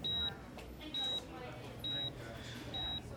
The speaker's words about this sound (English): What's that beeping sound? Where am I? Okay, right. I'm in a hospital.